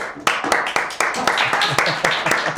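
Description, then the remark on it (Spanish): A small group applauds for Mariola with steady, fairly regular claps about four per second, moderately loud, with some voices murmuring underneath. “Vamos a mandarle un aplauso.”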